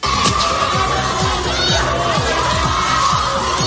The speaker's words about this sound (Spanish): Gritos, música de fondo, la Policía Nacional.